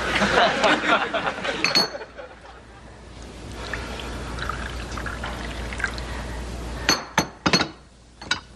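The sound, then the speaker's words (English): Liquid pours steadily into a glass for several seconds, followed by a few sharp, bright clinks of glass, with some clattering and rustling at the start. “Pour me.”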